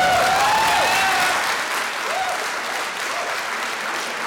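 An audience at a political debate with Governor Herbert applauds with dense, steady clapping that fills the whole stretch. It fades slightly after the first second and a half, with a few faint voices and whistle-like cries rising over it.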